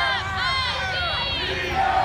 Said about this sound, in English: Some of the white people in the crowd try to drown them out by using the Mizzou chant, M-I-Z-Z-O-U.